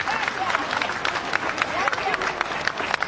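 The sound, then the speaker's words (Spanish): A crowd of Chileans in Santiago de Chile claps steadily and continuously for some fifty Spanish soldiers of the UME, a dense wash of overlapping applause with voices mingling in the background throughout. “Una vez más, en este caso, los chilenos, aplaudiendo a los soldados españoles.”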